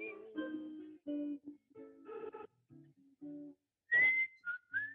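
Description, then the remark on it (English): A person whistles a short, bouncy tune to fade out a song, with a string of quick notes that shift in pitch and end on a few higher, sliding tones. “I'm gonna whistle to fade out.”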